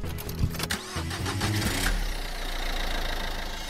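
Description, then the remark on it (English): A car engine in a car park cranks and catches with a few uneven bursts, then settles into a steady idling rumble that continues to the end. No one speaks. “I'm in a car park with Tom Ballard.”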